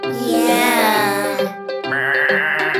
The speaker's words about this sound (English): The sheep is stuck on the mountain.